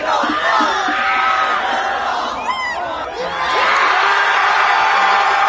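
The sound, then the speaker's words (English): A crowd of hundreds in New York City cheers and whoops wildly as Cheese Ball Man finishes the last cheese ball, with overlapping shouts and high-pitched yells, dipping briefly in the middle before surging back to full roar. “The cheese ball man has finished the last cheese ball, and the crowd goes wild.”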